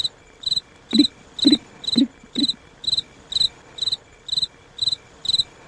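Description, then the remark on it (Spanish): Crickets chirp at night in a steady, regular rhythm, about two short shrill pulses per second, with a few soft low thumps early on and no voices. “Sí, son los grillos.”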